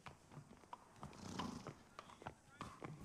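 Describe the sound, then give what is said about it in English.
Irregular clip-clop of horse hooves on a hard surface, with a brief whinny partway through and faint voices murmuring in the background. “Get that horse cooled out”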